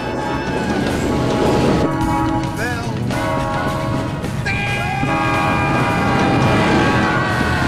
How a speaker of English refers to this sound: A train is coming.